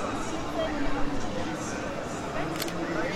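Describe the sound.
A camera shutter clicks briefly, close by, against a steady background of crowd chatter and indistinct voices.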